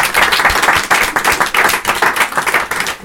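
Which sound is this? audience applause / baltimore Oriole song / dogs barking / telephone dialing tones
audience applause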